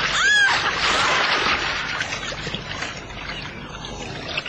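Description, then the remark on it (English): A heavy splash as a woman is dragged overboard from a boat into the water by a tentacled creature, followed by several seconds of loud, churning and sloshing water. “Dragged her overboard.”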